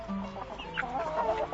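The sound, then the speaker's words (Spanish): Several chickens cluck in a steady, overlapping chatter of short, throaty calls, fairly loud for the whole moment, with no one speaking. “Se venía el mundial y Ladislao se dijo que él no iba a quedarse indiferente ordeñando vacas, alimentando gallinas, arando la tierra con el jondire.”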